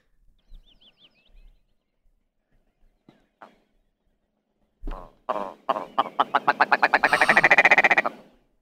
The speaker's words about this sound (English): But the best part of these birds is absolutely their mating calls.